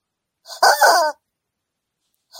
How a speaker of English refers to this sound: just squeezes the rubber chicken.